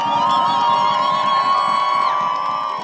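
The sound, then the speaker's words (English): A large crowd of left-wing supporters at Place de la République in Paris cheers loudly and continuously as the first election results are announced, with high whoops and shouted voices rising over a dense roar of many people celebrating together. “I went last night to Paris's Place de la République, where people from the left were gathering, and this is what it sounded like when the first results were announced.”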